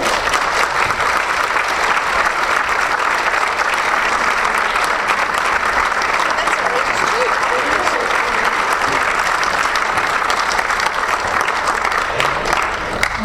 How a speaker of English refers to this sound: And so I'm going to come back here in a minute, but what I'm going to do now is present a gift to both of you, and if you can please give them both a rousing round of applause as I do that.